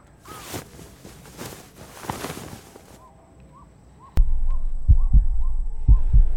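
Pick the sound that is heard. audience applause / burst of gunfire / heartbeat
heartbeat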